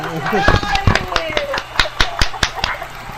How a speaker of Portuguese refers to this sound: Até joguei meu microfone no teclado aqui em comemoração.